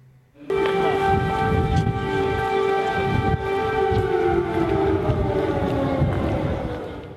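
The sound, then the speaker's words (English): A loud air raid siren sounds continuously for several seconds outdoors in central Kyiv, Ukraine, its steady wailing tone sagging slightly in pitch toward the end over a rumble of background noise, signalling that Russian jet fighters have taken off and are in the air. “Even then, air raid sirens rang out as the two leaders stepped outside in central Kyiv to visit a war memorial to fallen soldiers, a signal to the populace that Russian jet fighters had taken off from their home bases and were in the air.”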